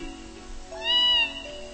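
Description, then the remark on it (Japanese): A single drawn-out meow from a cat-bat, a flying cat-like creature long extinct that lived only on this island, its cry rising and falling with bright harmonics, rising clearly above a steady low hum in the background, with no one talking. “うわ っ、猫コウモリはあっという間に俺たちの目の前から飛び去り見えなくなってしまった。”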